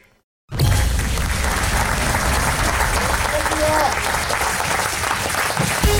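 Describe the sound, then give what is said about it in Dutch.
A large audience breaks into sustained closing applause at the end of a theatre performance, dense steady clapping at full volume after a brief moment of silence, continuing unbroken to the end. “Een bekend geluid na elke voorstelling. Het slotapplaus.”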